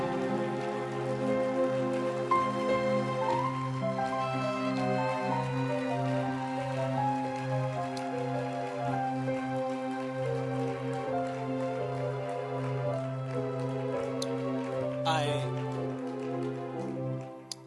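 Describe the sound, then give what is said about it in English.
An audience claps steadily for the Lord for the whole stretch, a dense, loud patter of many hands blended with sustained keyboard or organ chords playing underneath. “Come on, let your hand clap be louder for the Lord.”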